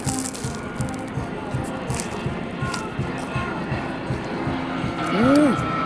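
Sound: airplane flying overhead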